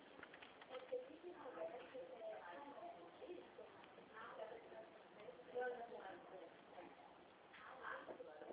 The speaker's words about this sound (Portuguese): Batendo palma.